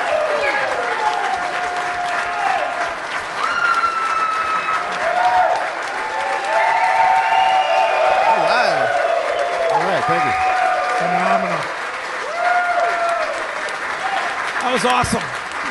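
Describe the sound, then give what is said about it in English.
An early morning audience in a pool area applauds loudly and steadily for about fifteen seconds, with shouts, whoops and high whistles rising and falling over the dense wash of clapping. “I don't know if it's because we're in the pool area and it echoes, but you guys might be the rowdiest early morning audience we've ever had.”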